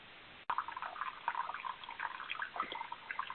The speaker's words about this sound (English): Someone's running water. Please mute whatever line is running water.